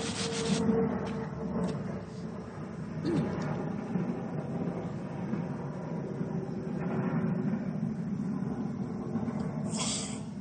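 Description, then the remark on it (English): Footsteps of a man led along by Bucky Barnes crunch pleasantly over a gritty surface in a steady, grinding texture, with a few sharper crackles standing out. The sound stays at a fairly even loudness throughout. “And it crunches pleasantly when he walks over it, led along by Bucky Barnes, who looks warm and comfortable and perfectly at ease as he bosses around Captain America in a burnt orange sweater.”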